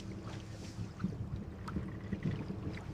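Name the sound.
boat moving on water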